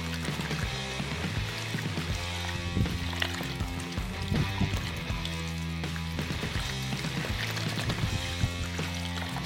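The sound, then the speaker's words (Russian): A litre of beer, added for flavour to a litre of water, pours steadily into a brine for ribs, a continuous splashing, gurgling stream that runs the whole time, with tonal background music playing underneath. “На литр воды добавляем литр пива.”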